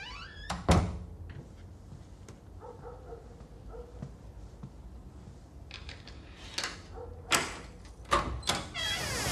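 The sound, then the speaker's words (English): A front door is unlatched and opened to answer the doorbell: a sharp clunk at the start, a quiet stretch of shuffling, then a few more knocks and rattles near the end. “Mo steps out of the lounge and goes to answer the door.”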